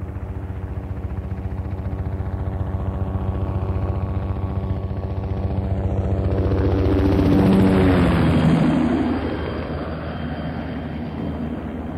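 Helicopters in the distance, in the hills, dumping water buckets on flaming bush: a steady rotor thrum drones throughout, growing slightly louder as it passes, then easing off toward the end. No voices, just the continuous mechanical chop of the aircraft.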